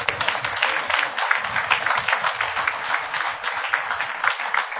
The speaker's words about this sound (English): Yes. Come on, clap.